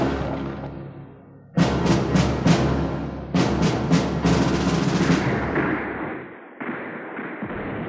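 Gunfire and artillery from a battle between Southern troops in gray uniforms and troops in blue: a rapid string of sharp bursts and heavy booms, coming in volleys over a continuous low, rolling rumble, with no voices.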